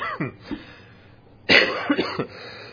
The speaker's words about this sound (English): Excuse me, try to get that coughing out of the way.